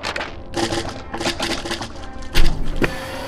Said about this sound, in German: draußen ist das Metallband von der Plastikrohre gerissen und die kullern jetzt vor der Türe rum.